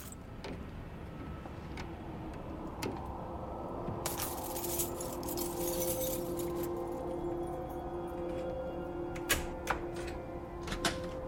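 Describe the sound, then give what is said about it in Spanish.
A guard on his rounds, shortly after 6, works at the jammed lock of an office door with irregular metallic clicks, rattles and sharp clacks, bunching into a busier burst midway and a few louder snaps near the end, over a low steady hum. “La cerradura parece estar averiada.”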